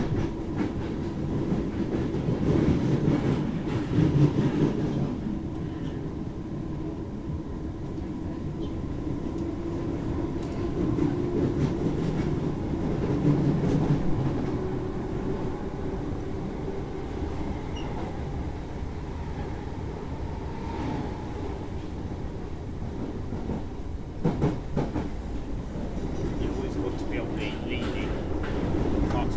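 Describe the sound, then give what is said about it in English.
Inside a moving train carriage as it brakes: a steady, heavy low rumble of wheels and rails, with faint rattles and a thin, brief squeal rising partway through. “When it puts the brakes on like this, you're being pressed against the back rather than pushed forward.”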